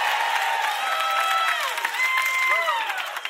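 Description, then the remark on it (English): A crowd cheers and applauds steadily, many voices whooping and shouting over a dense patter of clapping that stays loud throughout, with a few high cries rising and falling near the end. “Come, all the theys make some noise.”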